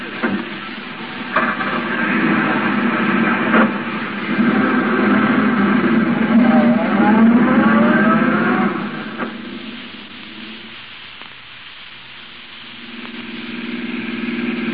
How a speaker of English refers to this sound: Hey, taxi. Cab, sir? Yeah, that gray sedan of the chauffeur. Follow it. Yes, sir.